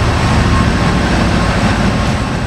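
Engine room machinery of the 380-foot ferry Testamina, mostly below the water level and filled with generators, shafts and boilers, roars steadily, a loud, unbroken mechanical drone with a heavy low rumble and a dense hiss across the top, no voices and no pauses.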